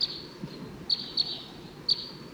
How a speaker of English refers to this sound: Sounds like those wild birds are coming back.